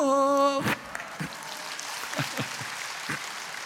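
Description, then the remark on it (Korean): A held sung note breaks off, and an audience claps for about three seconds, a dense, steady patter of many hands at moderate volume. “여러분, 박수 쳤는데 정되기 힘들지요?”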